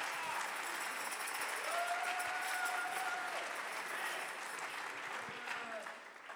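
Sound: audience clapping hands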